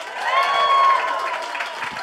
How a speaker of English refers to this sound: Well, thank you so much for coming out. We always start these live shows by asking for a round of applause. If you've ever heard our podcast, Do Go On before.